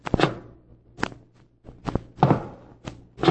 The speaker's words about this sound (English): Then one night I heard footsteps above me, in the tower.